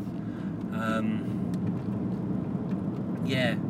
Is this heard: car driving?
yes